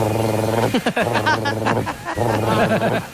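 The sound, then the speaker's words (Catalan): A man's voice imitates the call of the monk parakeets found on the streets of Málaga. Steady, nasal, buzzy tones break into quick warbling squawks with rising and falling pitch, in two loud bursts. “però solo el Real de Cotorra Argentina, concretament les que hi ha a Màlaga, i el senyor ens ha fet això.”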